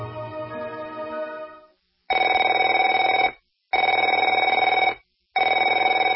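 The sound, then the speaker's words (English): A telephone rings three times in loud, evenly spaced bursts, each a steady trilling electronic tone lasting about a second with short silences between, following a brief fading sound at the start. “Afraid to answer it?”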